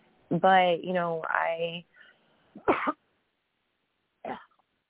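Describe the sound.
Someone clears their throat: a long, strained, voiced rasp, then two short, harsh clearing bursts separated by brief pauses.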